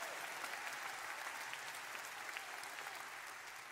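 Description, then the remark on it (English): An audience claps steadily, a dense, even wash of many hands with no voices standing out, holding its level before easing off slightly at the end. “Nobody clapping over there.”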